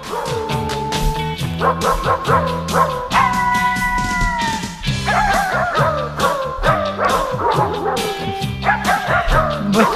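A dog barks over and over in quick, loud bursts, mixed with yips and a few whiny, drawn-out cries, nearly continuous for the whole stretch.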